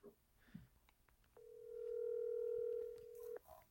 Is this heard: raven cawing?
no